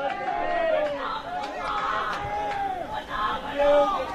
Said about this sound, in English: And the crowd is—we've got an active crowd already here today. Boys in the dugout are being loud, which is good.